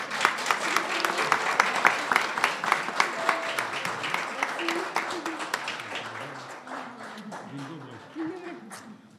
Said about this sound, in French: Ok, merci. On les applaudit. Merci.